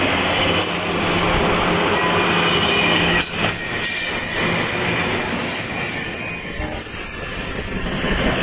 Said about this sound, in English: I've been on this train when there's as little as three passenger cars on it. But it's a pretty big train tonight. There goes some happy people going to see family or something. Going up north.